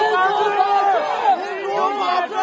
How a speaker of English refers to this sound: Here in this video, you can hear students at a Beijing university protesting and shouting, "We want rule of law and democracy."